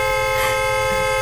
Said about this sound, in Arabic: لا تخافي يا ابنتي، إن هذا صوت بوق السيارة، هنا يستخدمون البوق بدلا من الصهيل.